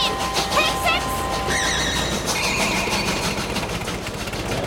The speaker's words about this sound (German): Während der Zug vorbeidonnert